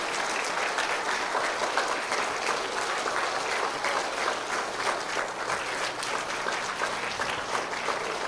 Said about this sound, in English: Yeah, I want a round of applause for that. You could stand up for that.